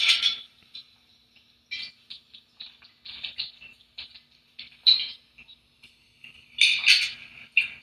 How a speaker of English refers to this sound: Excuse me, drink my water real quick.